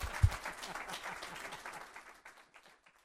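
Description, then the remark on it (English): An audience at an Omaha Press Club luncheon bursts into applause for guest speaker Alan Bierman, former Nebraska Secretary of State, many hands clapping densely at first, then thinning out and fading over about three seconds. “Ladies and gentlemen, a round of applause for our guest, Alan Bierman.”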